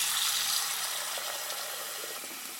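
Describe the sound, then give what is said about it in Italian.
Tap water runs steadily from an opened tap into a bidet basin in a bathroom, a continuous bright hiss and splash, fairly loud, with no voices. “Ecco aperto il rubinetto. L'acqua scorre nel bidet.”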